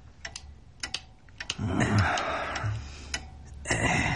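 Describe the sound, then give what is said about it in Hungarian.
Someone repairs a lighter, producing sharp, irregular mechanical clicks spaced unevenly, with a stretch of scraping and rustling handling noise in the middle. “egy öngyújtót javítgat.”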